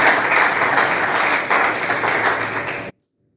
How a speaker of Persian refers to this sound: خودتون تشویق بفرمایید.